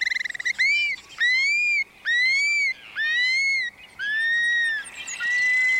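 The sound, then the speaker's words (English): A prairie bird's clear whistles ring out in a series of five or six arching, slurred notes, loud, each pause brief, with a soft hiss of open air behind them, dropping from the sky as the birds arrive on their prairie breeding grounds. “And their whistles can be heard again, dropping from the sky.”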